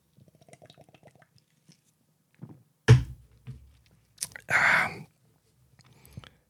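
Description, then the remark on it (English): Quiet sounds of someone drinking Foster's lager: a sharp clink, then a wet slurping sip and a longer airy gulp, with faint murmuring and breathy noise around it. “But, yeah, so three sips, and everyone knows the rules. One sip.”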